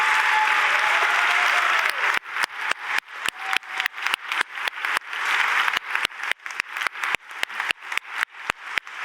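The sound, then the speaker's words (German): A large audience at the start of a conference breaks into loud, sustained applause for the organising committee that made the conference possible, a dense wash of clapping that carries on for several seconds, with sharp individual claps punctuating the steady roar. “Ich finde, wir brauchen mal einen riesigen Applaus gleich zu Beginn der Konferenz für den Trägerkreis, der das möglich gemacht hat.”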